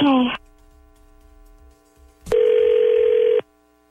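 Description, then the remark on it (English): A phone call placed by radio hosts at 102.9 The Wolf, ringing on the caller's end: a steady electronic ringback tone, first cut short after a brief fragment, then a clear one-second burst after a click, with a faint hum in the pauses. “We're going to get Will on the phone.”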